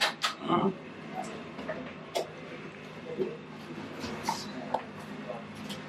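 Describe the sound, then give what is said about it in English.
Typewriter keys clack a handful of times at an uneven pace, sharp mechanical strikes standing out over a low hum, with faint murmuring in the background; a typewriter in a ship's yeoman shack. “And the yeoman shack. Typewriter? Yep.”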